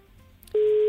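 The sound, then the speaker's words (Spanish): Faint quiet gives way to a sudden loud, steady telephone tone as a phone call to Conil de la Frontera drops, holding at one pitch until the end. “Ay, yo creo que se ha cortado. Se nos ha cortado.”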